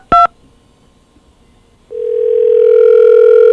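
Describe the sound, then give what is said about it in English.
A short, sharp telephone keypad beep, then a pause before a steady, loud dial tone starts and holds unbroken to the end, as a call is placed to a room at the Impala Motel. No one speaks. “it just dials right into that room”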